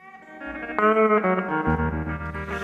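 A recorded song plays: sustained, effects-laden electric guitar chords over a deep bass line, full and steady in loudness, with no singing yet in this short stretch.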